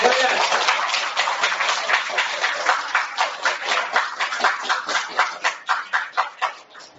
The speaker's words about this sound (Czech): Děkuji vám za potlesk, děkuji vám za oznámení, že už mluvím dlouho, že mám předat slovo kolegům.